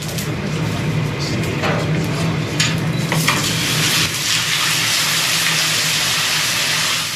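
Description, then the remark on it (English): Ice thrown onto molten lava sizzles and hisses loudly and steadily for several seconds, a dense crackling steam hiss with a few sharper pops and a low rumble underneath. “chuck some ice on top of some lava. So what's happening here is some of the steam is going up, but some of it is actually being pushed and forced into the lava and make it blow like a balloon.”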